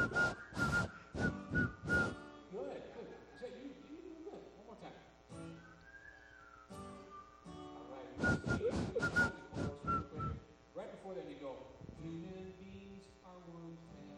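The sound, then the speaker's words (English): Several people whistle a simple song tune together, with short sharp opening notes followed by a wavering melody, repeated twice in a relaxed group performance. “So I wrote a song. It goes like this. Can you hum? Can you whistle?”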